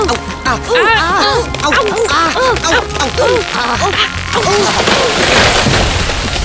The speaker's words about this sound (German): Der Baum. Er ist... umgefallen.